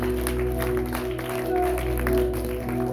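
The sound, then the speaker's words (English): An audience applauding, giving the Lord a hand clap as people return to their seats, many hand claps blending into a steady, continuous patter over a low sustained hum, holding an even level for the whole few seconds. “Somebody give the Lord a hand clap as you make it back to the seat.”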